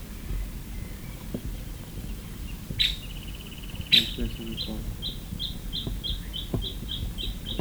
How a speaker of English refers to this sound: That last one was a woodpecker, I think.